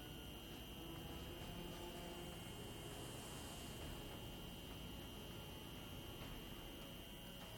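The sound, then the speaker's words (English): A steady, even roar of an airplane's jet engines as it gently lands on a runway at Bandar Abbas on a summer day in 2019, with a thin high whine running through it, constant for the whole stretch and fairly quiet, with no voices. “The airplane gently lands on the runway.”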